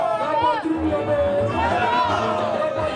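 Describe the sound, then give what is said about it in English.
An anti-coup protest crowd in Burkina Faso sings together at one of the main squares, many voices blending into a loud, steady chorus of Our Homeland or Death, a motto of Thomas Sankara, with sustained melodic lines over a constant murmur of the gathering. “The crowd could be heard singing Our Homeland or Death, a motto from Burkina's revolutionary figure and former president, Thomas Sankara.”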